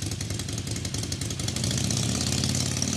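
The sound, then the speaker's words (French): A Harley-Davidson V-twin motorcycle engine idles with a deep, lumpy, uneven rumble, growing slightly louder and fuller midway as if given a touch of throttle; no voices. “Vous avez bien sûr reconnu le célèbre son d'une Harley Davidson qu'on connaît tous pour son emblématique moteur bicylindre en V.”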